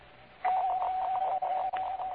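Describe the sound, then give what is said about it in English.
A doorbell at house number 105, whose door is open, is rung again in one long, unbroken burst, a steady high-pitched electric tone with a rapid, rattling pulse, moderately loud and with no voices over it. “Ring it again.”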